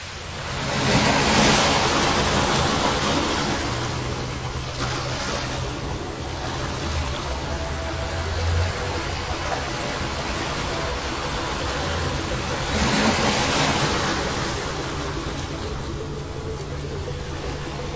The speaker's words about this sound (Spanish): El mar, en los arcos de Puerto Vallarta.